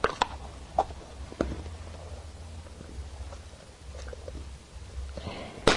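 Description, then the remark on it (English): Irregular crunching as someone chews Cheerios cereal, a handful of sharp bites scattered across a few seconds over a low, steady background hum, with no talking. “Crunch, crunch, crunch, crunch.”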